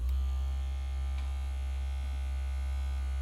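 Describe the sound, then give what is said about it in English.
A small vibrator buzzes steadily with a low, even electric hum that holds at constant loudness for a few seconds, with no one speaking over it. “That's not my phone, big boy. It's a vibrator.”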